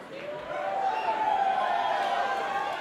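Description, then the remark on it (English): A concert crowd cheers and yells in a steady, sustained roar of many voices as the bass guitar player is introduced, holding loud and even for a few seconds with a faint rise partway through. “You better yell louder than that, motherfuckers.”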